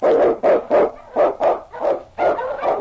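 King, an Eskimo husky lead dog in the radio drama The Challenge of the Yukon, barks loudly, firing off a rapid, uneven string of about eight sharp barks with brief gaps while blazing the trail through storm snow for Sergeant Preston, no voices around it.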